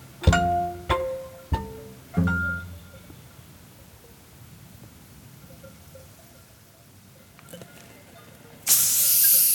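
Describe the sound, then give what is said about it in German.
A few bright glassy clinks ring out, then after a quiet pause a bottle of tonic water is opened with a loud, sustained carbonated hiss of escaping gas that continues to the end. “Tonic. Oh, Tonic sogar.”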